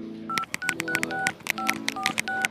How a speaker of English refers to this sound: Dave phones Cool on his mobile.